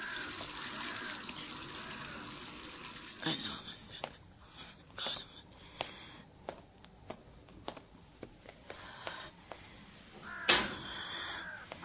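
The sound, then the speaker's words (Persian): Hands being rinsed under a running tap: a steady splash of water at first, then a string of sharp little splashes and knocks as the flow is worked through. “دستم آب بکشم، خودم رسوندم پشت در”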